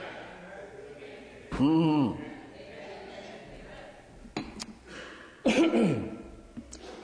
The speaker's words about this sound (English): I guess that was a coughing moment. Go ahead, cough again. Everybody get your cough in.